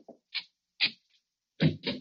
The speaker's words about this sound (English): Get going. Up the hall here. Open the other door